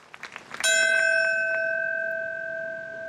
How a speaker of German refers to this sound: Um 8.46 Uhr flog 2001 die erste Maschine in den Nordturm an der Spitze Manhattans. Um 8.46 Uhr erinnert heute, wie die Jahre zuvor, eine Feuerwehrglocke an diesen Moment.